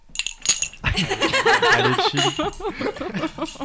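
A few bright glassy clinks ring out at the start as glasses are clinked together in a toast, followed by a burst of laughter and lively voices.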